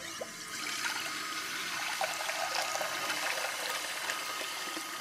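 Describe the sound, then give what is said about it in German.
Cold water runs steadily from a tap, a continuous splashing hiss with small bubbling trickles, fairly loud throughout, with no one speaking. “Um die Wut loszuwerden, hilft zum Beispiel auch kaltes Wasser.”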